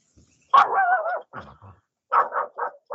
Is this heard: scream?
no